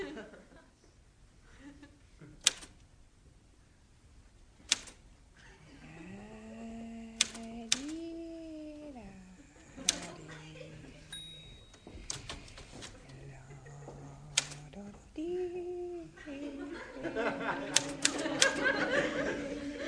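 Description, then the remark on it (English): Scattered key strikes on a newly borrowed typewriter land at irregular intervals, sharp, mixed with wordless vocal sounds, sliding hums and chuckles, between the clacks. “Says she'll be able to type faster on this one anyway.”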